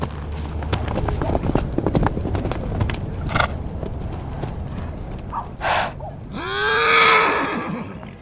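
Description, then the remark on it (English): In the Bay Area, several seconds of rustling footsteps and scuffing while walking up a hillside, with a few brief bursts of noise, then a horse whinnies loudly near the end, a rising then falling harmonic call. “The horses are probably over the top.”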